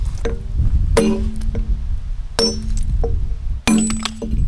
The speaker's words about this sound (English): That takes off a bigger cut. It actually sounds like a percussion instrument. They used to call that ringing the stone, because it was like a blacksmith ring almost. And then you can tell if something's going wrong too.